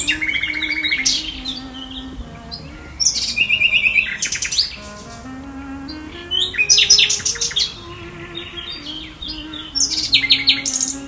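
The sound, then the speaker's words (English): A common nightingale sings loudly in rich, varied phrases: rapid repeated notes, bursts of high whistles and chirping trills, separated by short pauses, with no voices present. “Well, it's unmistakably a nightingale.”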